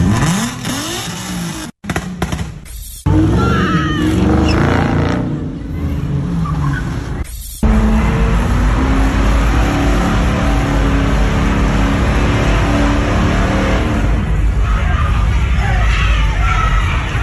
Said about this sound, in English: one of these street takeovers where you had all of these black kids in their cars, and they were causing all sorts of mayhem